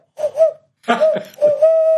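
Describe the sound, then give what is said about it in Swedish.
A person imitates an owl with hollow, whistly hoots made by blowing, fairly loud: two short hoots, a breathy, wavering burst, then a longer sustained hoot. “Det låter lite Halloween och ugglor i mossen just.”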